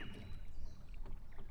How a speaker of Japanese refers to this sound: 草原で私の膝枕で寝転がっているはずが、近くでは波の音が聞こえたり、海にはいないはずの鳥の声が聞こえたり、